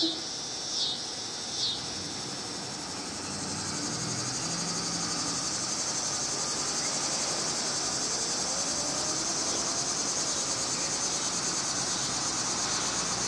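A steady, dense drone of annual cicadas fills the air in the city of Chicago in the middle to end of summer. It is a continuous high buzzing chorus with no breaks, with a couple of faint brief sounds near the start.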